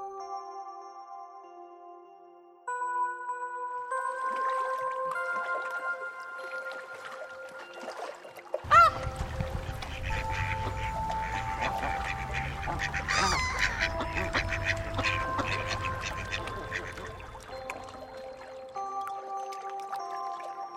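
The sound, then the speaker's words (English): Ducks quack on a lake in Victoria on the opening weekend of duck hunting season, over a bed of sustained, steady tones, with a sharp bang partway through followed by a low rumbling background that carries on to the end. “On the opening weekend of duck hunting season, a group of recreational shooters and a coalition of people opposed to native bird shooting converge on a lake in Victoria.”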